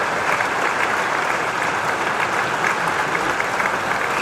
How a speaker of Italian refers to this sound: Adesso gli diciamo tutti bravo, perché è stato bravo, e gli facciamo un applauso.